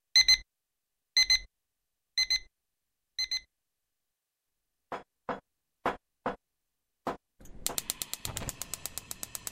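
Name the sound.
alarm clock ringing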